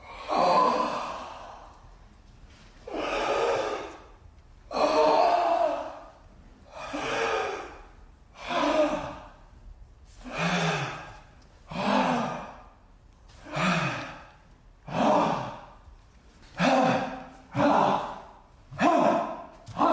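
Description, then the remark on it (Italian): Heavy, rhythmic breathing with sharp gasps and sighing exhales, about a dozen cycles that quicken toward the end, loud with no talking, from the contemporary dance work KMS of Resistance, where the breath is the centre of the stage action. “in KMS of Resistance il respiro diventa il centro dell'azione scenica, no?”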